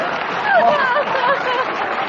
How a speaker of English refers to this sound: I don't know why you're clapping, because it's completely untrue.